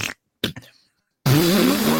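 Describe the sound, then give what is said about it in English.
A person blows mouth-made farting noises: a few quick sputtering bursts, a brief pause, then one long, loud, buzzy raspberry with a wobbling pitch, with no talking. “You're just making farting noises at each other.”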